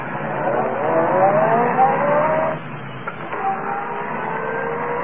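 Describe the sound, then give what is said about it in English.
A car engine revs up with a rising whine, drops off briefly, then climbs again and keeps running steadily at a moderate volume. No one speaks. “Well, then start this car.”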